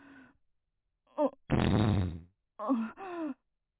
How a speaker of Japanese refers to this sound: おなら、止まんなくなっちゃった。ごめんね。でも、我慢が効かなくて。